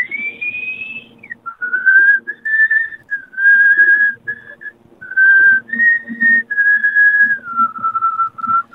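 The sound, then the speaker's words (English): A person whistles a long, unbroken melody, the pure tone gliding between notes with barely a pause. The whistling continues while breathing both out and in, lasting steadily for several seconds with no talking. “I can blow out and then in and still keep whistling.”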